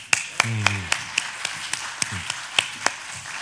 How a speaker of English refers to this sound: Thank you, ladies, for coming and sharing with us. Thank you. And another applause to y'all.